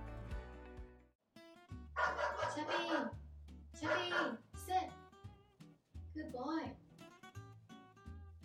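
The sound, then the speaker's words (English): A dog, Chubby, barks loudly at people outside in three rough bursts of rapid yaps, separated by short pauses, over a steady, humming musical tone in the background. “Sorry, Chubby was barking at people outside.”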